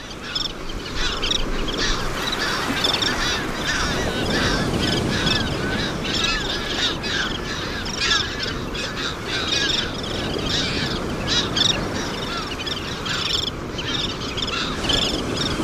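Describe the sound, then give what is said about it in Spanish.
Shrill, high-pitched pratincole calls chatter almost nonstop over a steady wash of breaking waves on a pebble beach where the birds breed. No one is speaking. “por encima de las olas se escuchan los reclamos muy agudos de unos pajaritos, se llaman canasteras”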